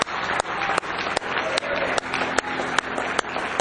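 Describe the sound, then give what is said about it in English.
An audience at a church worship service claps their hands for God in a steady, evenly spaced rhythm, sharp accented claps standing out above a loud, continuous wash of crowd applause. “Give Him one more hand clap if you love Him tonight.”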